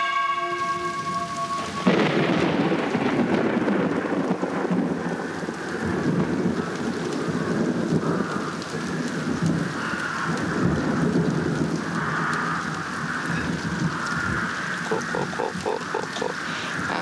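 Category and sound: nature, heavy rain with thunder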